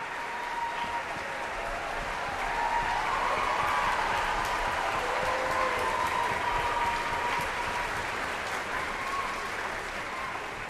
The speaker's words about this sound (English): Please stand and have us applaud you.